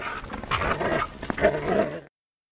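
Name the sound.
dog whimpering and growling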